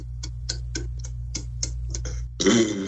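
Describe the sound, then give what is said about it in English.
A person does a burping exercise on command: a rapid series of about ten short, clicky gulps of swallowed air in a steady rhythm, counted, followed by a louder, rougher burst at the end, a burp. “I would just be honored if you could like walk us through a quick burping exercise.”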